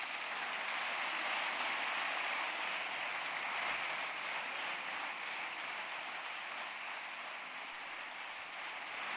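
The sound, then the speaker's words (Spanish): Sustained applause from a large crowd for a politician during his speech, a dense, steady crackle of many hands clapping at once, holding an even level for several seconds with no voices above it. “Continúan sí, los aplausos a Alberto Núñez Feijóo, que sigue con el discurso”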